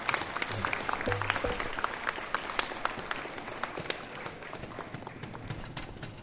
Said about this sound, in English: So I want to thank all of the parents, students. Let's give a big round of applause for all of our parents who are so helpful.